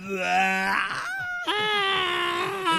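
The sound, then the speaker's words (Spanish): A human voice imitates a singer's wailing screams: two long, strained, moaning cries with wavering, sliding pitch, loud and sustained, separated by a brief catch of breath, with no talking. “Son una especie de alaridos de algo, claro.”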